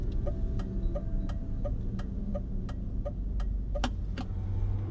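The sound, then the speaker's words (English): A car engine rumbles low and steady from inside the vehicle as the car is slowed down to a crawl before a corner, with an even, rapid ticking like an indicator clicking throughout. “slows the car down to a crawl, a precaution he takes before most corners.”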